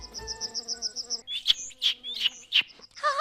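A bird chirps alone: a quick run of thin, high tweets, then several louder, sharper chirps spaced apart, and a short warbling trill at the end.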